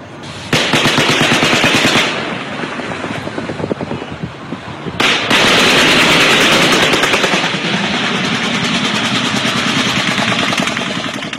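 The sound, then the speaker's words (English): Distant automatic machine gun fire from a helicopter moving behind buildings rattles in long, rapid bursts of varying loudness, dense throughout, with a brief pause partway before the shooting resumes. No voices are heard. “It sounds like automatic gunfire.”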